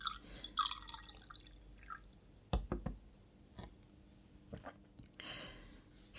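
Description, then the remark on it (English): Water trickles into a glass in short, dripping pours, with a sharp knock partway through as the glass is set down; quiet, with no one talking. “Would you like some water, Sergeant?”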